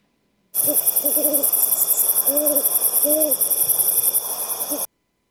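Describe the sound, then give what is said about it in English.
An owl hoots several times in short, wavering calls over a dense, steady chorus of insects or crickets buzzing throughout, giving a nighttime outdoor feel. “There's the sound of the owl. Listen, please play the owl.”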